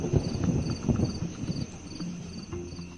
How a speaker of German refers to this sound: Also es ist irgendwie so wirklich eine Mischung aus irgendwie Herbst und Sommer, weil dieses Grillen, das hört man halt wirklich sehr oft im Sommer.